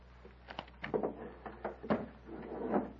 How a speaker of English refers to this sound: Come into the next room. Close the door, Poltar.